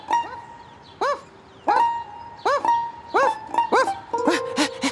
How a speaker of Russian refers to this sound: Что такое за окном? Кажется, я слышу, как гавкает собачка Жужа. Давно ее не видел.